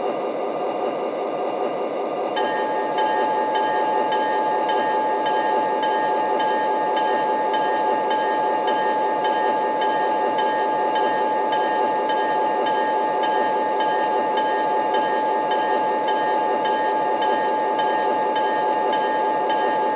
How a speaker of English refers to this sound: Now arriving from St. Louis on track 2, train number 6, now flying Virginian.